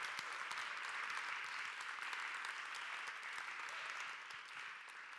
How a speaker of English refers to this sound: So could you first give him a round of applause and show him some love as he comes up here?